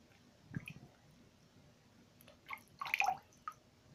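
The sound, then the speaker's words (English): Warm water dripping and trickling in a few soft, irregular bursts, with wet squishing sounds like a sponge being squeezed, during a sponge bath given to a bedridden patient after surgery, over a quiet background with no talking. “The water's nice and warm, isn't it?”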